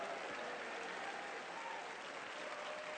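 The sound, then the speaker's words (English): A large audience claps their hands in a dense, steady wash of applause that holds at an even level for a few seconds, with no one speaking over it. “Everyone get on your feet right now, clap your hands and shout, I'm a believer and I receive it in Jesus' name.”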